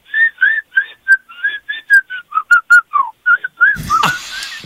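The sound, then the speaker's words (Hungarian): Someone whistles a melody in a quick series of clear, bright notes with a steady tune, ending with a burst of breathy noise and rustling at the microphone. “Mit fütyülsz? Mi volt a dal?”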